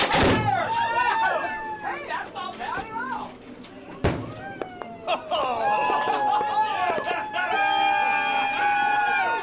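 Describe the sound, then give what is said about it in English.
A firework bursts in a golden shower above a boat with a sharp, loud boom, another crack coming near the start, while a crowd of around 15 passengers on the boat whoops, shouts and cheers excitedly throughout. “Around 15 passengers on the Noelani rush forward to watch the firework explode in a golden shower above the boat.”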